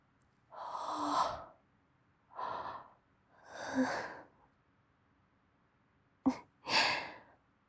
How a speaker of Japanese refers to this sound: あくび映っちゃいました。